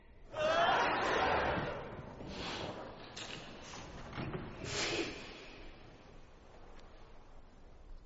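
A loud, breathy sneeze bursts out, followed by a few softer sniffs and huffs of breath over low background noise.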